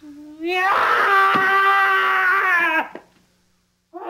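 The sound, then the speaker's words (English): A loud, angry bird call: one harsh, wailing screech that swoops upward, then holds a rich, buzzy tone for about two seconds before cutting off abruptly. “You are about to hear the loudest, angriest bird you have ever heard.”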